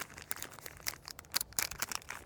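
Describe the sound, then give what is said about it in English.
A PowerBar Energy Gel Blast wrapper (strawberry banana with caffeine) crinkles and rustles in quick, irregular bursts of crackling, with sharp bright snaps scattered over about two seconds and no voices. “I am getting, you hear that paper rattling, this is a power bar energy gel blast.”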